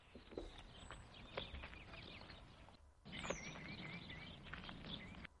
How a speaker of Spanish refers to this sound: en lugar de ponerme …, me está poniendo los pajaritos